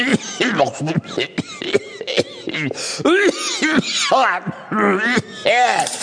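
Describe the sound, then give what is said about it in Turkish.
A man coughs and clears his throat repeatedly between bursts of muttered, voiced talking, after choking on exhaust smoke from a passing dolmuş minibus; the rough coughs and vocal sounds are fairly loud, running continuously throughout. “kendi kendine konuşup öksürüp duruyorsun.”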